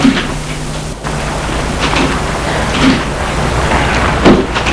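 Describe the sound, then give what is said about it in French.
Car doors shut with a few dull thumps spread over several seconds as two men get into the car at night, set against a steady hiss of outdoor noise, with no voices. “Puis, ils entrent dans la voiture.”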